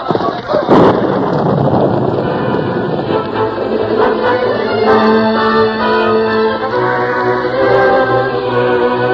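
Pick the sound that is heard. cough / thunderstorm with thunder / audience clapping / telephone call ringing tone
thunderstorm with thunder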